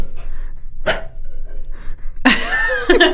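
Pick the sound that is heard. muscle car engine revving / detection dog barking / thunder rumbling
detection dog barking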